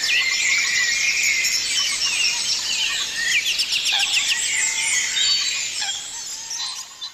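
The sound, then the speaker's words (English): A dense dawn chorus of many birds singing at once in the morning over a marsh at Kuskokwim Marsh Nature Reserve in Cove, County Cork, with overlapping high chirps, trills and whistles forming a steady, bright wash of song. No one speaks. “You're listening to the Dawn Chorus live from Kuskokwim Marsh Nature Reserve in Cove in County Cork.”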